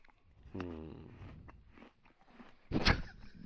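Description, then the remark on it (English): Someone chews a sandwich with wet, smacking mouth sounds, then takes a sharp, loud crunching bite near the end. No one speaks. “That's one of my pet peeves is listening to people eat.”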